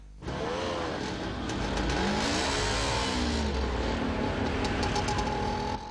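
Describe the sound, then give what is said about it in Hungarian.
Busy city street traffic at Erzsébet tér in Budapest, Hungary, with a steady roar of passing vehicles, as several cars accelerate, their engine pitch rising and sweeping over a continuous, loud background of road noise. “Az Erzsébet tér és környéke Budapest legzajosabb közterületeihez tartozik. Itt és más budapesti forgalmas utak mentén is jelentős a határérték túllépés.”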